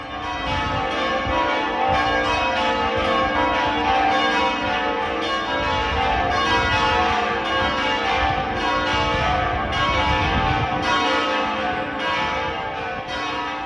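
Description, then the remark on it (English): A full peal of the church bells of Pershore Abbey rings steadily and loudly, many strikes overlapping into a dense, continuous wash of tolling with no voices present. “The bells of Pershore Abbey bring our program to a close today.”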